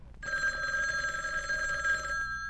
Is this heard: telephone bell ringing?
yes